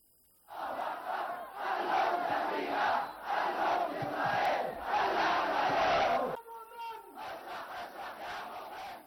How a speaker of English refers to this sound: The Yemenis chanted slogans against the U.S. and Israel over their atrocities in the besieged Palestinian territories.